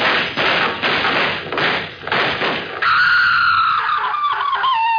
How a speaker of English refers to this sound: Them were shots. There must be trouble in Murderous Gulch.